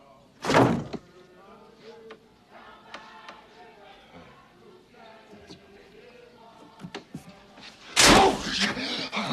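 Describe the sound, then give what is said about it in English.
A door shuts with a loud thud, followed by stretches of people talking, then another heavy door bang near the end. “Just leaving, you know, your door was open. Just wanted to close it, didn't want no one breaking in.”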